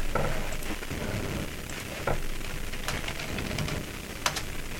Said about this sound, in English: Hold on. My keyboard.